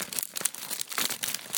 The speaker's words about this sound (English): So I have here a... You can hear the bubble wrap. Let me get a little closer and you can hear it properly.